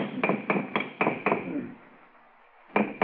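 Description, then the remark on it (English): Sharp metallic bangs strike the hollow housing of an air conditioner condenser with a sealed power pack in a quick, steady rhythm, five blows in a row, then a pause with a fading ring before two more hits. “Yeah, if you keep banging at it like that, you'll crack the seal on the atomic shielding and your posterity will thank you.”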